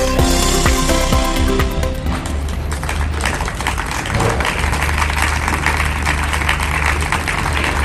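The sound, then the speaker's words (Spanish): Workers of the Xunta de Galicia delegation in Vigo applaud Valeriano Martínez, the Xunta's Economy councillor, in the morning: a steady, dense, sustained loud patter of many hands that continues to the end, following a brief tonal musical snippet at the very start. “Este que escuchamos era el aplauso que esta mañana le dedicaron los trabajadores de la delegación de la Xunta de Galicia en Vigo a Valeriano Martínez, el consellero de Economía de la Xunta,”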